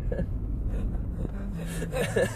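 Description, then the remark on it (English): A voice mimics panicked, gasping breaths: a few quick, breathy inhales and whimpery catches near the end, over a steady low rumble. “It's like that scene in Chicken Little, where the guy's breathing into the back.”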